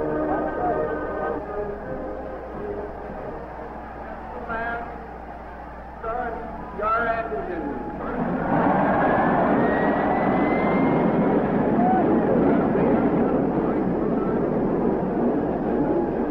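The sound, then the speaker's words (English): Race car engines hum and whine during the pace laps of the 1967 Memorial Day race, then burst into a loud, sustained roar around the halfway point as the pace car pulls into the pits and the field accelerates together at the start, staying powerful to the end. “After the traditional parade and pace laps, bringing the cars up to speed in starting order, the pace car pulls into the pits, and the race is off.”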